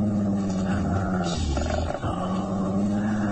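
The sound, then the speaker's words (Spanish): A large mastiff growls low and deep, a continuous rumbling snarl that swells briefly in the middle, loud, with no one speaking. “El mastín deja de gruñir y retrocede impresionado por las palabras y actitud de Calimán.”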